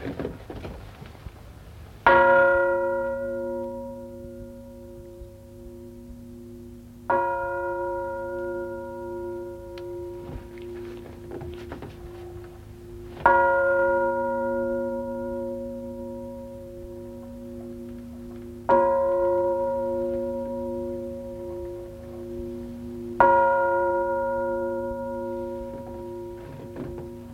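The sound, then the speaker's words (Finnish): A large church bell, its clapper swung gently, struck five times, roughly five seconds apart; each stroke blooms into a deep, humming tone with shimmering overtones that rings on and overlaps the next. “Koitetaanko ihan hieman, miten tuo kello soisi, jos varovasti läppäisimme tuota kieltä?”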